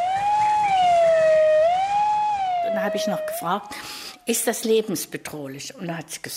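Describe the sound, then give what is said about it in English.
An ambulance siren wails loudly as the ambulance arrives, its tone rising and falling for a few seconds before fading under a person who starts talking. “Soon afterwards, the ambulance arrived.”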